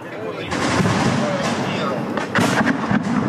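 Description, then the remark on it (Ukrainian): Sniper and high-arc fire with exploding shells from the opposing side: several sharp blasts crack out over a loud, constant rumble of noise, coming in uneven bursts with brief gaps between them. “Снайперская работа. Работает по навесной, разрывными снарядами.”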